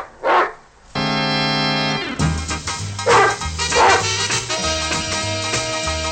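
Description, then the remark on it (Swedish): A single sharp dog bark sounds at the very start, short and fairly loud, then gives way to sustained music with steady chords and a rhythmic beat. “Till det säger jag bara hej hej och vår hund.”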